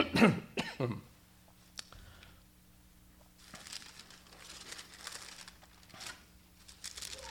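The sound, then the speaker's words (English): A couple of loud coughs and throat-clearing bursts from a congested speaker in the first second, followed by quiet background noise with faint rustling and a low hum. “That cough was just to alert Mr. Brown to be praying for me.”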